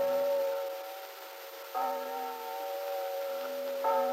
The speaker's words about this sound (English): The bells dismissing church were just dying in the distance on a peaceful, quiet Sunday morning in Wakefield.